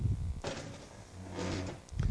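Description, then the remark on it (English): A faulty chair being shifted, with two broad scraping, creaking bursts separated by a brief pause and low knocking thumps at the start and end. “This chair is not fine.”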